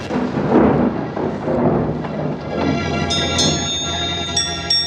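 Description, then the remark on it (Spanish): Deep rumbling thunder rolls beneath a constant roar of wind and rain at dusk, with bright tonal ringing sounds entering partway through over the stormy din. “Se anuncia una tormenta. El viento sopla cada vez más fuerte.”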